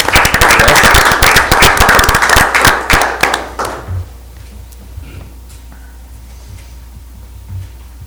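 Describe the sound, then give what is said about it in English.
An audience at a city council meeting claps in a dense burst of applause for about four seconds, honoring a fire department captain's EMT of the Year award, then it thins to a few scattered claps and fades into quiet room tone. “A round of applause.”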